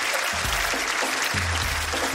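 An audience applauds steadily, a dense wash of many hands clapping at an even, fairly loud level with no pauses, lasting a couple of seconds.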